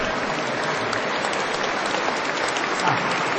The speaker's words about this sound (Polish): I brawa dla tych, którzy pozostali do końca, czyli dla siebie nawzajem, kochani, gorące oklaski.